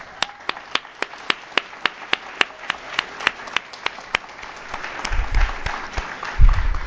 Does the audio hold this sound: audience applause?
yes